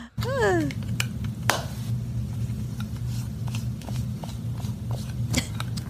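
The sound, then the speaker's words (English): Makeup brushes rub and scratch against a microphone in a steady, muffled rustle, broken by sharper bristly swishes and a brief squeaky sweep at the start. No one speaks. “She's rubbing brushes up against the microphone.”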